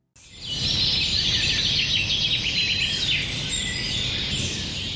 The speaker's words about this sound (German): Der Frühling ist angebrochen und damit auch die Zeit der Singvögel. Besonders häufig zwitschern die Männchen, um ihr Revier abzugrenzen und natürlich um Weibchen zu umwerben.